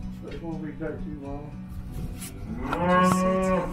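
Cattle moo repeatedly, several overlapping low, drawn-out calls from a herd being culled and sorted for sale, with the loudest bellow swelling near the end over a steady background rumble.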